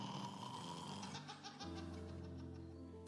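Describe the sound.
A voice imitates a person snoring in a shared bedroom at 3 in the morning: loud, drawn-out rasping breaths that shift pitch midway, with a laugh-like quality and no other sounds around it.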